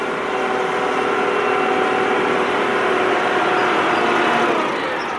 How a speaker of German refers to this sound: Gerade kam sie mit dem Traktor aus dem Dorf zurück.